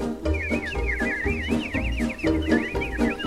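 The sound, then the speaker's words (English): Animatronic birds in Walt Disney's Enchanted Tiki Room: shrill, warbling chirps and squawks ripple continuously over a full, busy musical backdrop, the trilling calls rising and falling in quick, lively bursts. “The birdies have their fling.”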